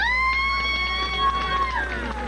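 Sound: audience applause and cheering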